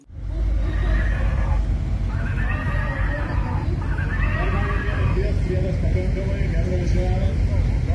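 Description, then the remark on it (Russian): A stallion famous throughout Lithuania neighs loudly, letting out three or four long, quavering whinnies one after another over a steady low rumble of background noise. “Самый знаменитый на всю Литву жеребец.”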